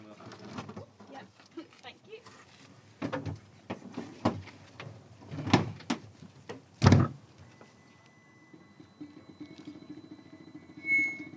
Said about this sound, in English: the solar-powered car, Evolution, squeaked off down the racetrack, I found myself scrabbling to describe it.